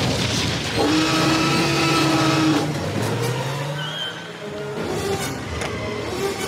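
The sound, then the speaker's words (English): A car engine turns over and roars to life, then revs and accelerates loudly, the rising engine drone filling the whole stretch with no talking. “Start the engine.”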